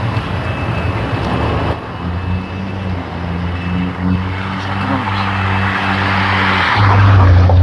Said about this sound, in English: That was a car. Sounds like somebody's got a jet engine running up over there. That would just be the weird echoes.